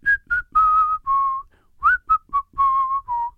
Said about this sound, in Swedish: Så jag la upp en story där jag visslar där.